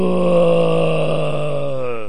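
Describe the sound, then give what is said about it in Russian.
A voice lets out a long, loud, deep roar, imitating an animal. One sustained groaning bellow lasts about two seconds and slowly tapers off at the end. “увидел теремок, услышал песни и заревел во весь голос.”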